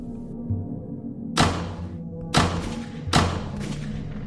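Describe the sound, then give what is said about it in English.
Three heavy, muffled gunshots behind a closed door land about a second apart, each a dull thud with a short ringing tail. No one speaks. “Then I realised it was gunfire. All behind the closed door.”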